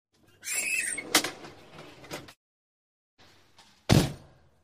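The two large rear doors of an ambulance swing with a squeaky creak and latch with a couple of sharp thunks, then after a short pause a final loud slam closes them, with no talking.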